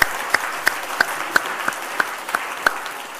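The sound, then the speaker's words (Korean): An audience applauds steadily, a dense wash of many hands clapping with sharper claps punching through at an even, almost rhythmic pace. No one speaks. The applause is thanks to the many volunteers who served, including teaching and caring for children and driving vehicles. “그분들에게 감사의 박수를 한번 올리겠습니다.”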